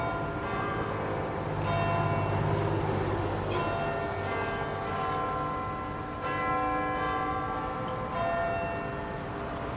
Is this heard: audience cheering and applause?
no